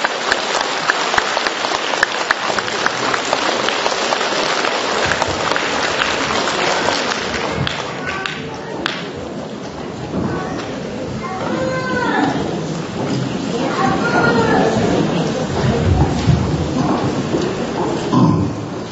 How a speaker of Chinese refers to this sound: 那么下面呢，我想听到我们观众朋友们可以使出的最热烈的掌声，来请出我们尊贵的卢台长卢金红先生上台为我们讲解玄学知识，有请卢台长。